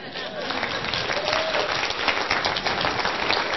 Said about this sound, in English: So that's the end of that thing. So applaud me.